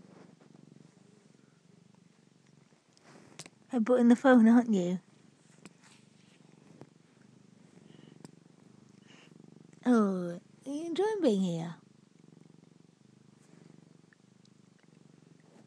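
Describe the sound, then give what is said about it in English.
A female domestic cat purrs loudly and steadily, a continuous low rumble running throughout, while a person speaks softly in a few brief bursts over it. “Burrowing quite loudly, aren't you?”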